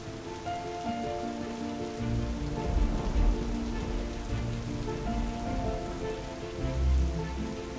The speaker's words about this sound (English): As the rain falls, the gullies and the waterways fill, before collecting to form a small pond.